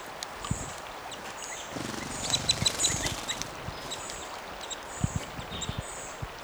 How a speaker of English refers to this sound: These birds are fighting and interacting in this low tree. Stop. This is a female. She went down to an old fire pit.